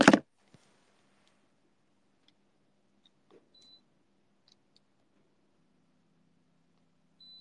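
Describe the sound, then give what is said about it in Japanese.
An air conditioner that was left on gives a few short, high electronic beeps spaced apart as its on-timer is set, following a sharp click at the start, otherwise quiet with no talking. “あ、エアコン消し忘れてる。危ない危ない。入りタイマーつけとこ。”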